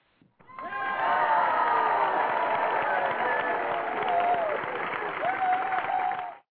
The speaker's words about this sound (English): No, she definitely deserves the applause for that comment. No, that was for the both of them.